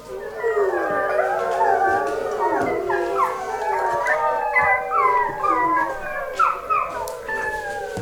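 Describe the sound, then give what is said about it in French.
A white she-wolf howls mournfully, long wavering cries rising and falling in pitch and overlapping one another, steady and fairly loud for the whole stretch with no talking. “La biche l'entendit alors pleurer.”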